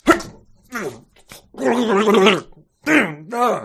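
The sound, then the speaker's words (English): A voice imitates rising arguing, harsh yelling and a struggle as sound effects during a script reading: a string of loud, strained, wordless shouts and groans in bursts with rising and falling pitch, some rough and gargly, separated by short gaps. “So yeah, that was rising arguing, harsh yelling, and the sounds of a struggle.”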